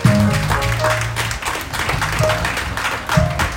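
An audience breaks into steady, dense applause for a member's birthday, many hands clapping at once and holding an even loudness for several seconds, with a few faint voices and tones mixed into the clapping.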